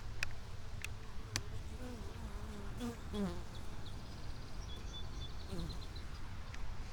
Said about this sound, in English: Bees are flying in and out of each hive. And there's some other bee boxes around and some other bee equipment. There's a honey frame down over here. I'm going to stick the microphone up to the beehive and see if we can hear some bees buzzing.